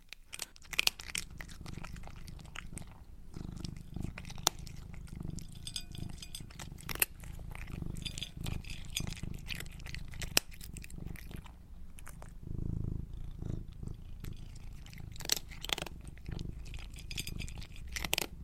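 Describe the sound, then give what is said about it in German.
A cat crunches dry kibble, with rapid, irregular crisp bites and chewing throughout, while a low rumbling purr runs steadily underneath. “Eine Katze, die so Trockenfutter frisst.”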